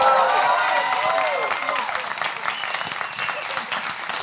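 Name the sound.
audience applause and cheering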